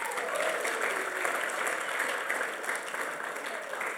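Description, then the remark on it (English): Steady applause from an audience, a dense, continuous patter of many hands clapping at an even level for several seconds with no clear break. “Give them a clap.”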